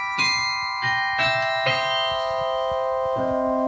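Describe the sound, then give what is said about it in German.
Carillon bells in Mechelen, Belgium ring out a slow melody, several struck notes with long shimmering overtones that hang and overlap, clear and fairly loud with no voices. “über die besonderen Glockenspiele in Mechelen in Belgien.”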